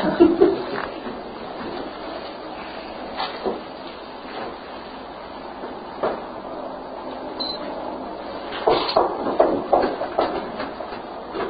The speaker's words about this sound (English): Somebody knocking outside.